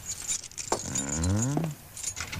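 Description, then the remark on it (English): A ring of metal keys, found in a desk, jingles and clinks in light bursts at the start and again at the end, with a short squeaky, falling tone sounding in between, as the keys are tried on a locked door. “Where are those keys we found in the desk? Here they are.”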